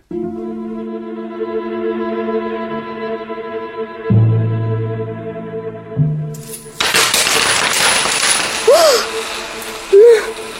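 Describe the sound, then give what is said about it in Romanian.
A steady ringing, chime-like tone gives way to lower droning notes, then a dense, bright shower of jingling coins pours down continuously for several seconds, clattering loudly with occasional higher pings: hundreds of real coins falling from a skirt pocket and tumbling across a barn floor. “Ploaia asta de bani vine din buzunarul fustiței mele?”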